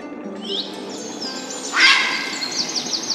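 Colorful jungle birds perched in trees chirp and trill in a busy chorus in a warm, steaming jungle, with one louder, harsher call bursting out midway over a steady humid background hum.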